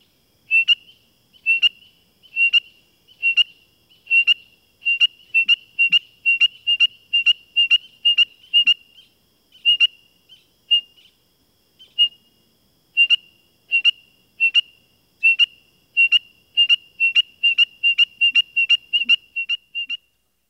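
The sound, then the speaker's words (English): A male spring peeper trades sharp, high peeps with a person whistling imitations, responding instantly as the whistler varies the tempo; the single notes come in steady runs that speed up into rapid volleys, pause briefly, then resume. “In this recording, a male peeper responds instantly to my whistled imitations, even as I vary the tempo.”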